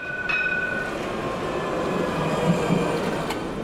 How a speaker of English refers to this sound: A Barcelona tram, a decidedly older version than today's.